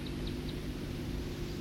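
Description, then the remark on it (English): A songbird gives a few brief, thin high flight call notes, three in quick succession and one more after a pause, faint over a steady low rumbling background. “That was the flight call of the second songster.”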